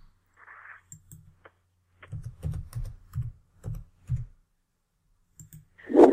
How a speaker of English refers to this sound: I got my phone way down here. I'm still typing in buttons here and something's screwed up. Hold on just a second.